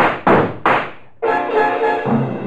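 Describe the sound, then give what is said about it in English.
Three heavy, thudding footsteps approach, coming closer at almost 8 o'clock, landing in an uneven rhythm, each with a booming decay, before a sustained, droning musical chord swells in and holds to the end. “It's almost 8, and now you hear them. Footsteps. Closer. Closer.”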